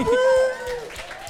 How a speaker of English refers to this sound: please whoop and clap and cheer now.